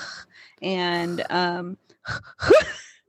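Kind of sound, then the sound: vocal imitation, imitated heavy breathing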